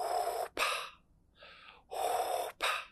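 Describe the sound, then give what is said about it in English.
Heavy, rasping breaths, loud, in a slow in-and-out rhythm with a softer breath in the middle, a man sitting behind the speaker mimicking Darth Vader's breathing. No talking. “I can hear him breathing.”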